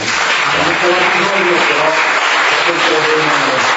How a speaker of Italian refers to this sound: Quindi lo ringraziamo, con un applauso.